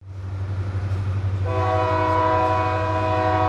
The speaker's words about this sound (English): Recently, I recorded this coal train leaving a coal mine destined for some power plants. It was a long train, and across the country, hundreds like it run constantly.